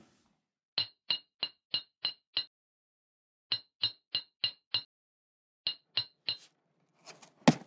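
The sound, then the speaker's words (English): A hammer strikes a meteor stone of almost solid metal, trying to break it along a fissure, in three quick bursts of sharp, ringing blows, about fifteen in all with pauses between, followed by a harsher crunching crack as the stone splits clean in half. No one speaks. “I had a hammer in this drawer. Yes, here it is. I doubt if the stone will break.”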